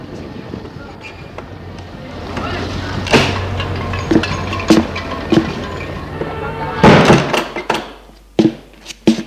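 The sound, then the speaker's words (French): The heavy entrance door of a small apartment building on rue Bouteille opens and swings shut as people enter, with several clunks and rattles over a steady low rumble, followed by a few sharp knocks as the background quiets down. “Ils entrent dans l'immeuble.”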